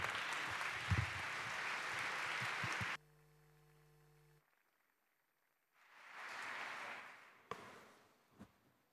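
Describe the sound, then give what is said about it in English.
Audience applause for a speaker introduced at a talk on the Internet of Fails bursts out loudly for about three seconds and stops abruptly, followed by a low steady hum, a brief silence, then a second softer swell of clapping and a couple of sharp knocks. “Thanks. Applause.”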